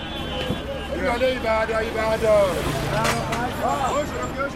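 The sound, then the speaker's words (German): A busy outdoor central bus terminal in Lagos: yellow-painted VW minibuses, called danfo, arrive one after another on the sandy terminal, engines rumbling amid a steady din of many overlapping voices, with a sharp clank or bang cutting through partway. “Zügig hintereinander fahren die gelb lackierten VW-Busse auf dem sandigen Terminal vor.”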